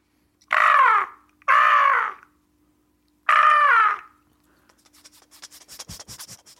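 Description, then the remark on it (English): A person imitates a seagull with three loud, harsh squawking cries, two quickly paired and one after a pause, followed by soft rustling and crackling noise. “can you give us the sound of a seagull?”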